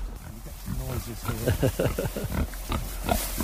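Pigs about 4.5 to 5 months old grunting excitedly over food, a busy, overlapping run of rough, mid-pitched grunts and short squeals that keeps going throughout, fairly loud over a steady background hiss.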